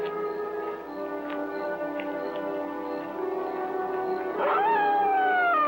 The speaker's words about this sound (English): That dog is in the next yard.